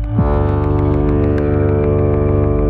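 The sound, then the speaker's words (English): A deep foghorn blast sounds loud, one steady low droning tone held unbroken for about three seconds, rich and buzzy with no voices over it. “This is why we use low frequencies anytime we need a sound to travel as far as possible, like a foghorn.”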